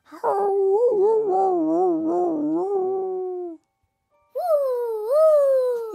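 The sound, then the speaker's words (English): A person imitates a dog's howl: a long, wavering howl of about three seconds, a short pause, then a second, shorter howl that rises in pitch. Loud, with no other sounds. “The colonel lumbered over to the door and howled into the night.”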